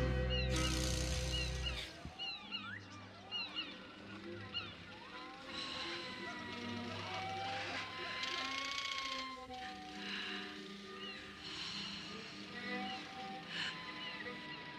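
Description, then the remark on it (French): Seagulls call over and over in the distance, a chorus of high, wavering cries and squeals that overlap throughout, above a low, steady rumble that is loudest at the very start. “J'aime bien entendre des mouettes comme ça au lointain.”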